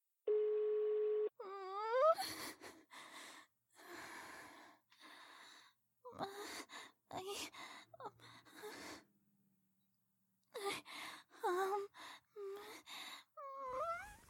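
A steady electronic voicemail beep tone on a phone sounds for just over a second, clear and alone, followed by a string of breathy gasps, wails and moaning vocal sounds with short pauses between them.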